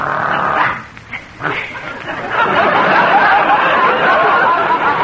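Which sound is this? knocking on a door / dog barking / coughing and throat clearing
dog barking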